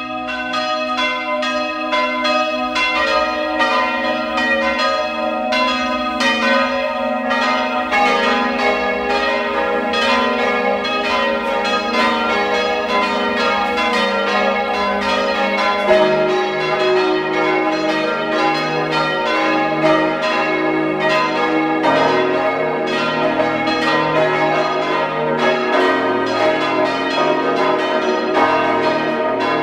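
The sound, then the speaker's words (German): Several bells of the town parish church of Langenlois, a wine town in Lower Austria, peal continuously at 12 noon. Their overlapping strokes blend into a rich, ringing wash that stays steady and fairly loud throughout, with no voices present. “Sie hören die Glocken der Stadtpfarrkirche von Langenlois in Niederösterreich.”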